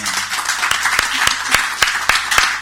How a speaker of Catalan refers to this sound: Bueno, demanaria un fort aplaudiment per a aquests dos senyors.